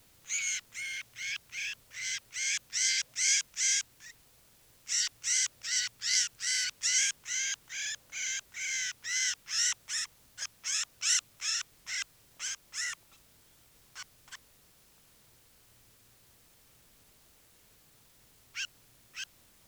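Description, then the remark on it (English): A crossbill, bird 396, held in the hand gives a long run of loud, harsh, buzzy calls in quick rhythmic bursts, pauses briefly, continues, then tapers off into a few scattered calls with stretches of quiet between. “This is bird 396 in the hand.”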